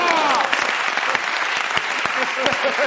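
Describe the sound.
Steady, loud audience applause for a comedian at the Club de la Comedia fills the whole stretch, a dense wash of clapping with a few scattered cheers and voices rising through it.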